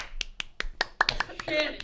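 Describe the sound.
Steady hand clapping, about nine sharp claps in an even quick rhythm, growing busier and overlapping toward the end as a voice or two joins in underneath.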